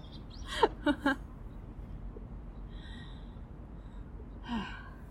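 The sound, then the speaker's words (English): Pigeons pecking at grass coo in a few short, throaty bursts, with a quieter murmur a moment later and faint higher chirps in the background over steady outdoor hiss. “my pigeon audience.”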